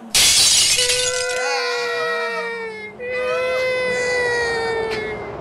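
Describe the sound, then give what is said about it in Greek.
A sharp crash of breaking glass bursts out at the start as a remote-controlled cart launches off a ramp and smashes through a glass pane, its bright shards fading quickly, then a long wavering high-pitched wail, like a crying voice, carries on loudly to the end. “Το καγκουράμαξο έδωσε τούρμπο, σπίνιαρε τις ρόδες του και έφυγε με φόρα πάνω στη ράμπα, όπου εκτοξεύτηκαν σπάζοντας το τζάμι.”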